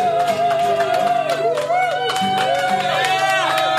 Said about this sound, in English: Thank you. Thank you, everybody. I don't think you heard the fucking song, but thank you for the cheer. That was good.